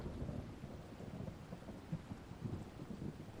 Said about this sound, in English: At least, wait until the rain has stopped.